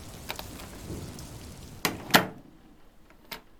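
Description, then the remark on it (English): Rain pours outside in a steady, fairly soft hiss, broken by a few sharp splashes or taps near the middle and end. Afterward the sound turns duller and more muffled. No one speaks. “Well, I'm sure you could fix it if it wasn't pouring out there, but you don't even have an umbrella.”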